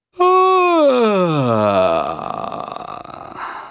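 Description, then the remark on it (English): A single voice doing a vocal exercise slides downward in a yawning sigh from the top of its comfortable range, its pitch sinking steadily to the bottom of the chest voice until it breaks into a low, crackling vocal fry that rattles on for a couple of seconds. “To do this exercise, simply start at the top of your most comfortable range and just yawn. Now bring that yawn down to the bottom of your chest voice until you drift into a vocal fry like this.”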